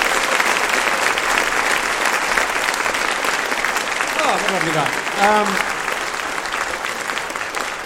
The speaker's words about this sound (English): Ladies and gentlemen, give a big round of applause for Sunil Patel, ladies and gentlemen.